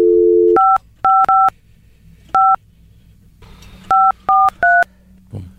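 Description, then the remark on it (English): A steady dial tone gives way to seven short two-note keypad beeps pressed in uneven bursts, some quick pairs and some after pauses, with faint background hum between presses. “Omar can't dial a phone.”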